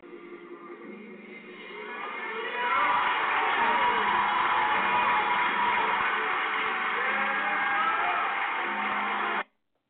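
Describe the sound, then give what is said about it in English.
A church audience cheers and shouts together, the roar swelling after a couple of seconds and holding loud and steady before cutting off abruptly. “I've never seen black people cheer when they're getting robbed.”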